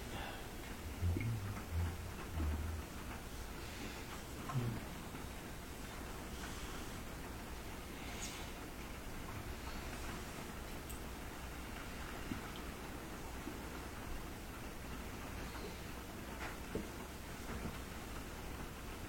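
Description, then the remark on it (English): Steady, soft morning rain hisses evenly throughout, a gentle wash of pattering drops with no voices, heard at a low level. “Hearing the rain again just felt mm-hmm.”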